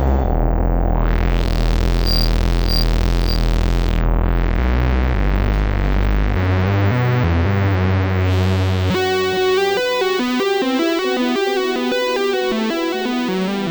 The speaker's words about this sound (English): So, with a little bit of patching, you can get an extremely rich, full sound out of this quite cheap analog machine.